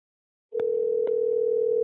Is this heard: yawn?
no